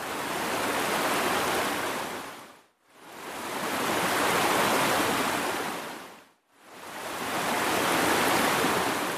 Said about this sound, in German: Aber wenn ich die Lautstärke in regelmäßigen Abständen rauf und runter drehe, dann erzeugt das schon mal einen Effekt, der sehr stark an Wellen erinnert, die auf einen Strand strömen.